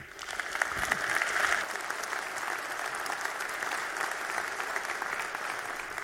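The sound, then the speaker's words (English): An audience applauds steadily for about six seconds as a speaker is introduced for a talk on hardware attacks on ARMv8-M security features. A dense wash of many hands clapping swells slightly early on, then holds at a fairly even level, with no voices. “please give a warm round of applause to Thomas Roth”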